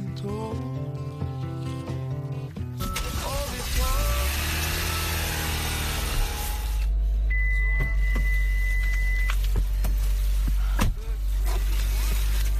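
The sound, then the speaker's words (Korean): A car runs with a steady low engine rumble that swells after a few seconds, a brief electronic tone and a couple of sharp clicks riding over it. Light music plays at the start. “제법 근사한 자동차를 몰고 다니는데요.”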